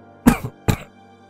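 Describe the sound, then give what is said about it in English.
Two harsh, wet coughs in quick succession, fairly loud, with a brief gap between them and quiet afterward; a man coughing up blood. “mumbled as he coughed up some blood.”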